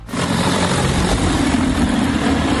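Propellers of a T30 agricultural spraying drone buzz loudly and steadily from start to finish, a dense droning whir with a low humming tone running underneath. No one speaks.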